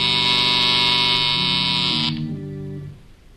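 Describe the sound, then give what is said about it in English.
A loud, harsh electric buzzer sounds in an office at night, blaring steadily for about two seconds, then cuts off, leaving lower humming tones that shift in pitch and fade away. No one speaks. “K-12 watches those lights intently some moments before a buzzer sounds.”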